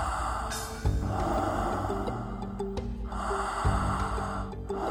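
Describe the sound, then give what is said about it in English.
Deep, slow breaths, each long airy inhale or exhale rising and falling in a steady rhythm, about two full cycles with no talking. “Widening your experience and your awareness with each cycle.”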